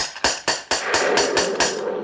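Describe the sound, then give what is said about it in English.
A heavy gate knocker bangs in a quick, steady series of about seven sharp metallic knocks on a gate, on a stormy night, each ringing briefly before the next, over a constant rushing background noise. No one speaks. “Oh, yes, yes, the gate. Here's the knocker.”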